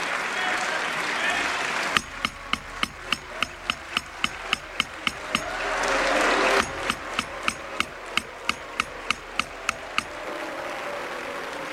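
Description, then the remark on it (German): Applause in a parliament for socialist member Edith Streller after her progressive resolution, booed by conservatives and reformists and given a standing ovation by other groups: a swell of clapping and crowd noise, then sharp, evenly spaced claps or knocks at about three per second, with a murmur of voices underneath. “auf der anderen Seite hat sie aber auch Standing Ovations von den anderen Fraktionen bekommen”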